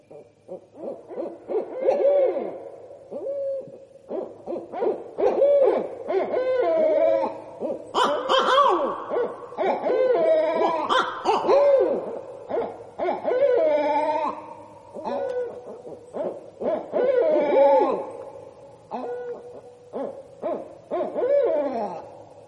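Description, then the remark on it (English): A pair of barred owls calling back and forth in a loud, raucous territorial duet, with wavering hoots, cackles and gurgling caterwauls overlapping continuously, no speech. “They're often doing that because they're hearing another pair or individual barred owl on an established territory, and that's when the pair starts really revving up and making those territorial calls.”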